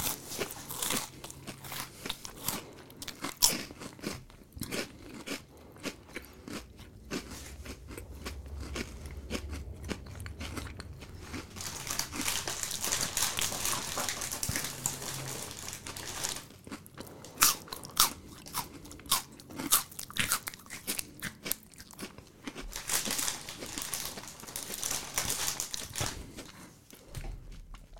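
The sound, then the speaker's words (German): Loud, crunchy chewing right up against the microphone, with dense crackling bites and mouth sounds continuing steadily for nearly half a minute, no talking. “Eine Minute kauen wir jetzt nur vom Mikrofon.”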